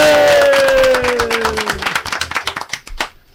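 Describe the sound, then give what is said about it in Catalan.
A live audience bursts into applause with a few cheers, dense at first and thinning into scattered individual claps as it fades out over a few seconds. “Un aplaudiment per al fantàstic públic que hem tingut avui aquí.”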